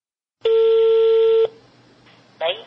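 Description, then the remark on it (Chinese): A single steady telephone tone rings out clearly for about a second over a faint line hiss as a phone call is dialled again, followed by a quiet pause and a brief burst of sound at the end. “耐着性子再次拨通电话。”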